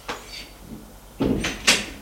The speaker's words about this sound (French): Ils entendent la porte qui s'ouvre.